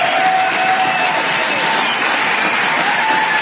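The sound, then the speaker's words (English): An audience at a speech about the Equal Rights Amendment cheers and applauds loudly and steadily, a dense wash of clapping and voices with a few sustained shouts rising above it, holding at an even level throughout. “What are they cheering about?”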